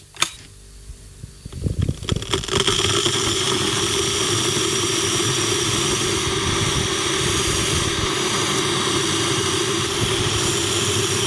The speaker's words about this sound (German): Los geht's. Wasserkocher an und dann Tee kochen.